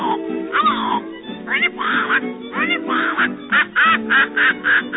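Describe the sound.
A voice imitates a squawking parrot, letting out a string of harsh, nasal squawks that grow quicker and more clipped toward the end, loud with no other sound.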